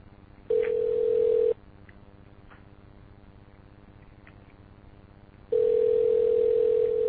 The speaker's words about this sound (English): I'm going to call this up right now. I'm calling up a Sprint phone with a voicemail box that has not been set up yet. Now check this out. We'll wait for a decoder to call it up. Here we go.